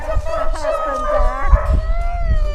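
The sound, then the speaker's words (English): A chorus of dogs kept in individual kennels at a Humane Society of West Alabama facility barks, yips and howls at once, overlapping voices, loud and continuous without a break for a couple of seconds. “A chorus of barking greets anyone who pulls into the live-in area”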